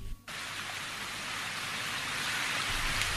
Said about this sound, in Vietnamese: Cậu quên mất một điều, trời mưa. Trong khi cậu nói, thêm một điều kỳ diệu nữa đã xảy ra. Dường như toàn bộ các đám mây đã trút toàn bộ nước xuống làm toàn thân cậu ướt đẫm.